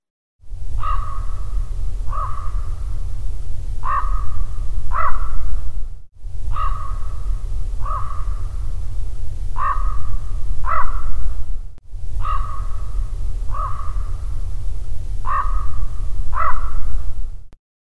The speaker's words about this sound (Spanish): En este sonido del graznido de un cuervo